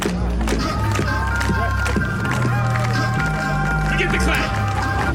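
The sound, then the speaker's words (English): At a live event performance, a crowd asked by the performer to clap along on beat claps unevenly off the beat, the sharp hand claps landing out of step over steady music with sustained tones, with voices mixed into the noisy background throughout. “Yeah, you had people clapping on the ones, the fours, the sevens.”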